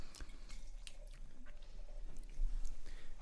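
Wine from the Alto Adige region trickles and splashes into glasses, poured for the women first, in a steady, gurgling pour, with scattered clinks and drips over a low, continuous background hiss; no one speaks.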